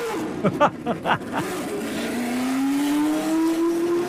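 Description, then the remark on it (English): Mario Andretti's 1978-79 black and gold Lotus race car fires up on the track at Circuit of the Americas with a few sputtering, coughing blips, then settles into a loud, steadily rising rev as the pitch climbs smoothly upward, coming on the cam at around 8,000 to 10,000 RPM. “And that was Mario Andretti's 78-79 black and gold Lotus firing up on the track at Circuit of the Americas.”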